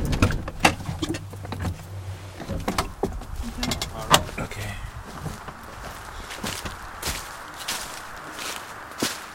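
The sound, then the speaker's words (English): A car engine idles with a low hum, then is switched off after a few seconds. Doors clunk and footsteps crunch as people get out of the car into a quiet outdoor space on a vineyard farm. “Should I put the car off or...? Yeah, that's probably a good idea. We'll get out for a moment.”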